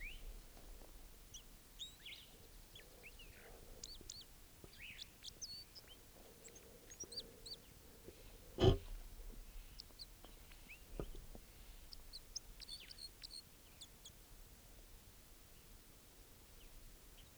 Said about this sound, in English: There's a male. Of course, I think a male. Still sitting here. By himself. Recording that bird now.